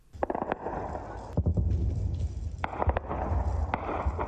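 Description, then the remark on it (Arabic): Repeated sharp blasts and cracks ring out over a constant low rumble, some bursts loud, others quicker and scattered, like heavy explosions mixed with bursts of gunfire, from violent clashes on Eid morning in Khartoum, Sudan's capital, involving warplanes and guided missiles. “هكذا تحول صباح العيد في العاصمة السودانية، انفجارات عنيفة واشتباكات متواصلة بمشاركة من المقاتلات الحربية والصواريخ الموجهة التي استخدمت للمرة الأولى منذ اندلاع الصراع.”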